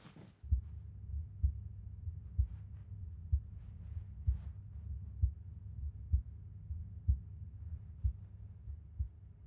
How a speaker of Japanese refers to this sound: 私の心臓の音、聞こえてる？そう、心音 ASMR って言うんだっけ、こういうの。